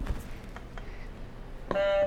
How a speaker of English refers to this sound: Can you press another buzzer for me?